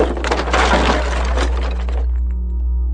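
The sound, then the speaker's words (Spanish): A loud crash of a small house made of sticks collapsing, a dense burst of cracking and breaking for about two seconds that thins out into a few scattered clatters. No one speaks. “El lobo sopló y resopló con todas sus fuerzas, y la casita de palo se vino abajo.”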